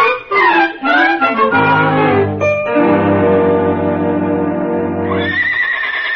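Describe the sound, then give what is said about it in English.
A horse whinnies loudly, a long, shrill, quavering neigh that rises, holds and trails off over several seconds, with no talking. “these are the sweetest horses.”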